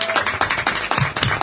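Studio applause: a short burst of several people clapping, dense and irregular, at a steady moderate loudness with no voices over it.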